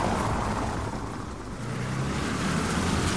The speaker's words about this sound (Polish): To też jest ciekawe, jestem na ulicy dosłownie od 5 minut, a już zdążyło przejechać ponad 5 samochodów.